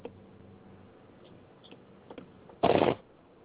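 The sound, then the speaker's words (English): A brief burst of cards being riffle-shuffled, a dense crisp flutter lasting about a third of a second, preceded by a few faint ticks and soft handling noises. “I want to need somebody to shuffle for me.”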